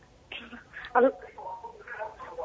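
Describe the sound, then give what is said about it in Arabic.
A television plays in the background of a caller's phone line during a call to a program, its muffled, tinny voices at a low, steady level with a brief louder burst. “يا ريت تكلمينا من التليفون وتطفي صوت التلفزيون.”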